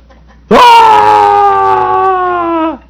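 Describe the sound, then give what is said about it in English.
A man lets out a single loud, sustained scream that starts abruptly, holds a steady strained pitch for about two seconds, then cuts off, with no talking around it. “So you run down the street and start screaming?”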